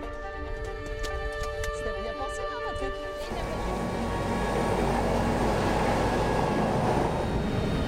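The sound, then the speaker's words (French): A medical team's helicopter called out to a road accident involving a motorcyclist, about thirty kilometres west of Lyon: a steady turbine whine with sharp clicks, then a sudden loud, rushing roar as the engine and rotors take over, sustained. “Lendemain matin, cette fois c'est l'hélicoptère qui est réquisitionné.”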